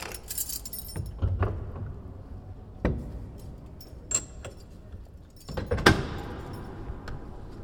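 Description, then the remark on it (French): Keys jangle and scrape in the lock of a castle door, followed by sharp clunks and the door being pushed open, with a louder burst of rattling near the end. No talking. “Là, c'est la porte du dragon.”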